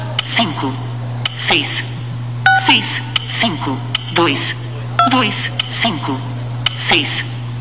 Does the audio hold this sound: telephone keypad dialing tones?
yes